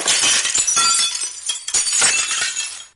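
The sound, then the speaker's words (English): A loud crash of breaking china as a china cow kicks over a stool, a pail and a china milkmaid onto china ground, with shards clattering and tinkling in two bursts of bright, jangling impacts before the rattle dies away. “As they drew near, the cow suddenly gave a kick and kicked over the stool, the pail, and even the milkmaid herself, and all fell on the China ground with a great clatter.”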